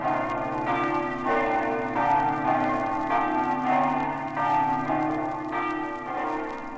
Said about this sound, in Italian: Ad essa si uniscono a farle coro tutte le campane delle 12 chiese di Buia, le 8 facenti parte della chiesa madre e quelle di Avilla, di Madonna, di Urbignacco.